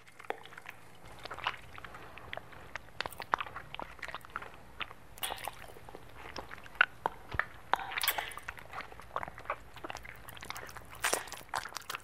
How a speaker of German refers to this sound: Also, ich höre so Schmatzgeräusche. Ziemlich feuchte Angelegenheit. Hat auch was Rhythmisches.